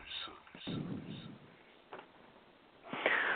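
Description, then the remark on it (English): Heavy breathing, a series of loud airy huffs and exhales at an uneven pace, with the last breath the strongest. “Breathing so hard.”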